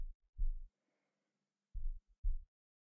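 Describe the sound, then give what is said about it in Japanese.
Two muffled heartbeats, each a low double thump, spaced about a second and a half apart, dull as if heard through a chest, with near silence between; a person's heartbeat heard with an ear pressed against their chest. “心臓の音、聞こえますか？”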